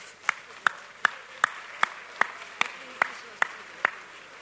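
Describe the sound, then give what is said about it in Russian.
Steady rhythmic clapping in unison, about ten sharp claps at an even pace, as workshop participants sitting in circles applaud together and thank one another, with a faint murmur underneath. “Ну, вместе, вместе поддержим аплодисменты.”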